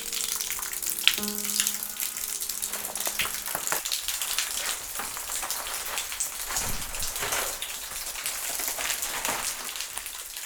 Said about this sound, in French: Des traces blanches, ocre, jaune, orangé, bercé par l'eau qui s'écoule comme des perles de pluie, quoi. Voici le son des entrailles pyrénéennes.